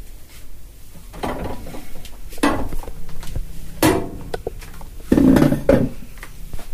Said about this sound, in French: Donc là, c'est le moment où je vais m'installer sur une chaise.